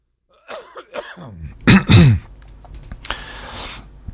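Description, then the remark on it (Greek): Two loud, harsh coughs, preceded by some brief throat noises, with a faint mechanical whir lingering afterward. “περίμενε λίγο να βήξω.”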